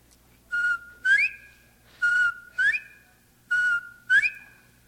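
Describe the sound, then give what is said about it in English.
A bobwhite quail call, whistled three times in a steady rhythm: each a short flat note followed by a sharp rising one, clear, with no talking. “Also a popular game bird in Florida is a bobwhite quail.”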